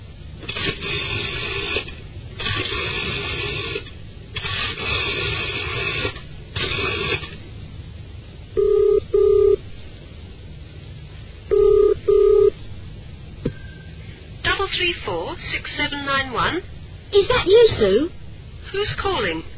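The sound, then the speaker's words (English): Telephone dialing, redialing a number that had been engaged for a long time, gives way to the double-pulse ring tone, buzzing twice in pairs down a phone line before a voice picks up and starts talking. “That number's been engaged for ages. Nobody can be that popular. I wonder if her number's been changed. I think I'll try again.”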